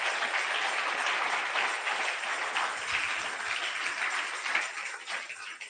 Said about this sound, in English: So be careful with us. You can clap unto the Lord.